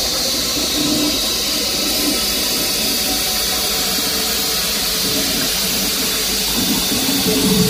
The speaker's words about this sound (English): It's exactly how it sounds. Anybody who's in Group 7, and if you don't know, you're not in it. You're not in. We all flushed the toilet today around 2 o'clock.